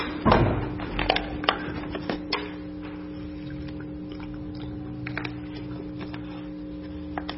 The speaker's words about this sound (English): Let me get a sip of water here real quick. And I left my water in the pulpit.